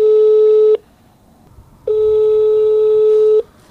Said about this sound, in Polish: Nikt nie odbiera. Nikt nie odebrał.